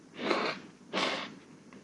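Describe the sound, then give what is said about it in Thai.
Two short, forceful nose blows, fairly loud, a person imitating blowing a nose stuffy from a cold, with a brief pause between the breathy, hissing bursts. “จมูกมันก็คัดจมูกมันเป็นหวัดสั่งน้ำมูกฟูดปาด”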